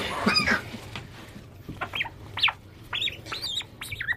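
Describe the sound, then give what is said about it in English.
A bird being weighed at a feeding shed, weighing 354 grams after gaining 12 grams, calls in a series of short, squawking cries, one burst at the start and then several rapid calls toward the end, over a low background rumble. “So this bird's gained 12 grams and is going to be fed 70 mils of sardine smoothie.”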